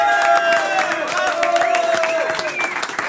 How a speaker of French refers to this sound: Bravo. On applaudit.